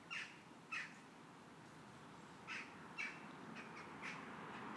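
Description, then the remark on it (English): Two unidentified birds trade short, bright calls at intervals, each a quick burst repeated several times over a steady low background hum, fairly faint. “There's two of them, whatever they are.”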